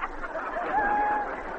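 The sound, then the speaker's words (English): A person imitates a rooster crowing with a single drawn-out, rising vocal call, fairly loud, over faint background noise. “A rooster.”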